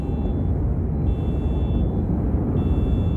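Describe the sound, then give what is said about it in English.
A car alarm sounds as an intermittent, high-pitched electronic tone that cuts in and out over a heavy, steady low rumble. No one speaks. “It's totally silent except for the car alarms blaring down.”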